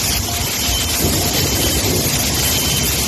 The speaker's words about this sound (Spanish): Este es el sonido del aeropuerto de Ibiza, totalmente anegado por el agua. Allí se han tenido que suspender las operaciones durante más de una hora y 24 vuelos se han visto afectados.